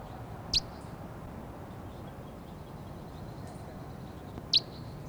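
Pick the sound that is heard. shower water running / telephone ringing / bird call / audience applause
bird call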